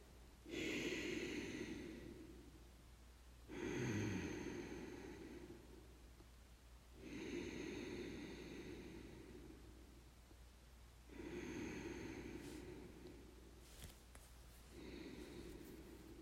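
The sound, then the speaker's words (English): Slow, quiet ujjayi breathing on the inhale: five long, hushed, throaty breaths in a steady rhythm, each a soft ocean-like rasp lasting a few seconds, with no talking. “Ujjayi breathing.”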